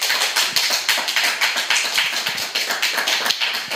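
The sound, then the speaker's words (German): A small live audience at the Chaos Computer Club, Marienstraße 11, applauds steadily, many overlapping hand claps forming a dense, crackling patter at an even level for several seconds, with no voices over it. “Mal gucken, wie laut der Applaus gibt, den es machen kann.”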